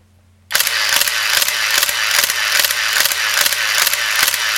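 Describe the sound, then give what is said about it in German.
A Nikon F2 film camera with an MD3 motor drive and MB2 battery pack fires a rapid burst of shutter releases, about two or three crisp clicks per second (at most 2.5 frames per second) over a steady mechanical whir, loud and continuous with no talking. “Das ist seine Nikon F2. Und richtig. Zwar mit MD3 Motorantrieb und MB2 Batteriegehäuse. Maximal 2,5 Bilder pro Sekunde.”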